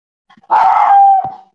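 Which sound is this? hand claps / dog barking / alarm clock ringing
dog barking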